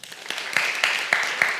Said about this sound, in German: Wer studiert alles? Einmal klatschen?